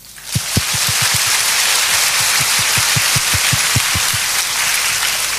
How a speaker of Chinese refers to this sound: 在这里请容许我以热烈的掌声为大家作为鼓励。